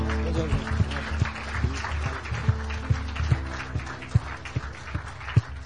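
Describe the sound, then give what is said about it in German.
An audience applauds God steadily for several seconds, a dense wash of many hands clapping at once, with a few sharper individual claps popping out above the crowd. “Gib Gott mal einen richtigen Applaus.”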